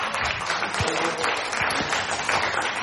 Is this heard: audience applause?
yes